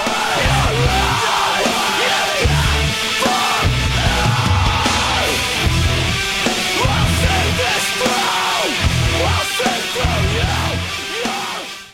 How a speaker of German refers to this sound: Okay, ist auf jeden Fall Screamo. Richtig. Weil die in diesem Song schreien. Richtig.